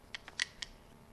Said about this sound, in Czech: Jo, a teďka tam postupně vkládám ty papírky.